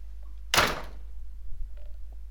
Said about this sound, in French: J'ouvre la porte. J'entre et je ferme la porte.